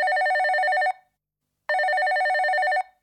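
A telephone bell rings twice, each ring a loud, rapidly warbling electronic trill lasting about a second, separated by a short pause. No voices are heard.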